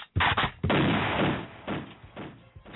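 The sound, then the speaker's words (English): A gunshot sound effect: a sharp, loud blast with a rumbling tail, followed by a few smaller, fainter shots trailing off. No one speaks. “Do I get a prize if I get the fifth gunshot?”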